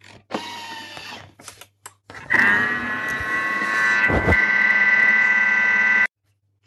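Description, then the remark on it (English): A Thermomix's motor whirs and churns in uneven bursts during the final mix of a vanilla cake batter, then settles into a loud, steady high-pitched whine for several seconds before stopping abruptly. No one speaks. “And it's beeped.”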